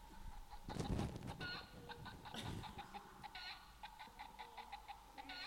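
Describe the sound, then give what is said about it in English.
A chicken clucks inside a bag in a series of short, moderately loud bursts at an uneven pace, with a couple of brief rustling thumps near the start. “What'd you say? Chicken. A chicken.”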